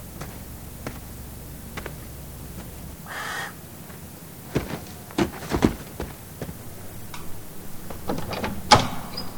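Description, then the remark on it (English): A house door is opened: a brief rushing creak, then a series of sharp clacks and knocks at irregular intervals, with no one talking. “Let me open the door.”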